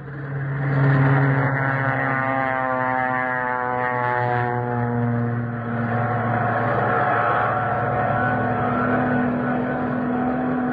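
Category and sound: vehicle, warplanes taking off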